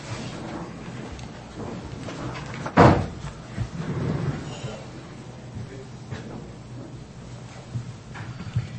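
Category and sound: household object, door being closed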